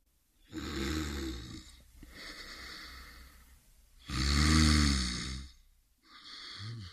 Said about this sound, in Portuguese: O leão bocejou, roncou e até começou a sonhar. E um sorriso iluminou-lhe o rosto com prazer.